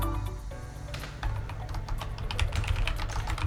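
Rapid, clattery mechanical keyboard typing by two people typing at the same time, with dense overlapping keystrokes, steady over a low hum.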